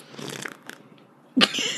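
Someone drinking beer: soft, wet sipping and mouth noises, a short pause, then a sudden louder fizzing hiss that carries on to the end. No one speaks.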